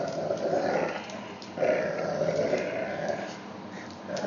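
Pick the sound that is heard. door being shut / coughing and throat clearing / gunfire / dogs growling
dogs growling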